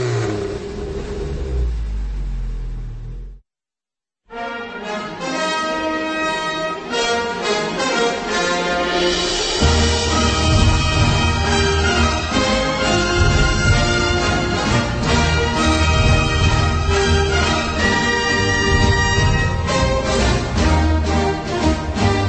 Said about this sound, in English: Well, that's the music that brings to mind what America used to be.